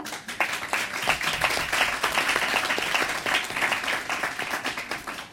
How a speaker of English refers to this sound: Thank you very much again. And please, let's give another clap.